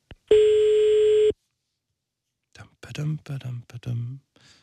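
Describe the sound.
A single steady electronic telephone ringing tone sounds for about a second as someone's mobile phone is called during a live radio broadcast, followed by a short silence, then a person begins speaking softly.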